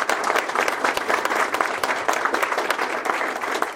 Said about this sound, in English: But once again, like I said, it's difficult to run for office. So let's give another round of applause for our candidates.